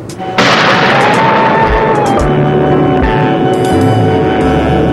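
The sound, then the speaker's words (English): Thunder crashes in suddenly after a brief quiet moment, then rolls on as a loud, continuous rumble, with several deep booms punching through over the next few seconds. “I seek refuge from the storm.”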